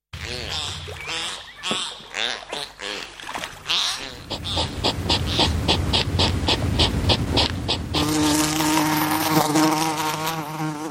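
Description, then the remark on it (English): A bumblebee's steady, droning buzz fills the last few seconds, low and humming, after a run of other animal sounds: squeaky whistles of a bottlenose dolphin and then quick rhythmic clicking snuffles of a hedgehog. All three animals are on a shortlist to appear on banknotes. “Well, that obviously was the bottlenose dolphin, the hedgehog and the bumblebee.”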